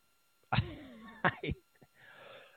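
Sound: coughing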